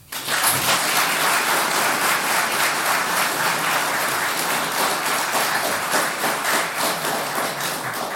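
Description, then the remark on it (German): An audience applauds steadily to welcome a talk, dense clapping from many hands at a constant, fairly loud level with no voices standing out. “Einen riesen Applaus bitte.”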